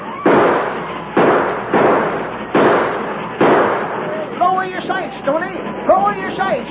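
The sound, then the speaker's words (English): Four loud gunshots fired from a moving train boom out about a second apart, each trailing off with a rumbling echo, then excited voices shout over the noise. “Start shooting.”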